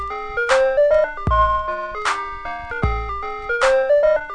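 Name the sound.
ice cream truck jingle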